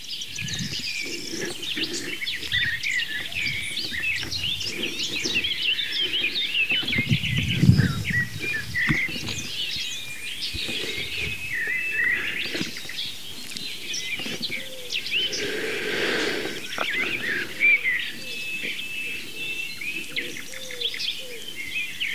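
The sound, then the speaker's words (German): Soft, low wood pigeon cooing in repeated phrases, set against a busy dawn-chorus backdrop of high chirping songbirds and insect buzz, with no one talking. “Die Ringeltaube, die ist kein Singvogel, das ist halt eine Taube.”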